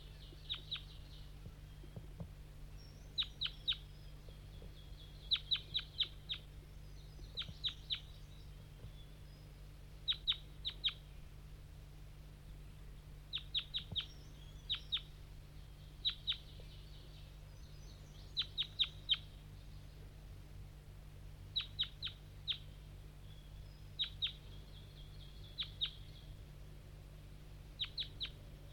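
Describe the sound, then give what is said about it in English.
Wild birds, lured in by calling Bird 5-3, fly up from the bottom of a hollow through fog: clusters of short, high chirps repeat every couple of seconds throughout, over a steady low rumble, with no one speaking. “So recording, 5-3's lured in some wild birds, flying from the bottom of the hollow, through the fog.”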